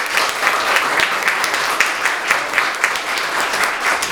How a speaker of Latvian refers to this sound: kurā gadījumā es gribēju teikt, mēs viņai paldies vēl pateiksim, bet varbūt, ka pasakām arī tagad paldies ar aplausiem, jo viņi ir strādājusi.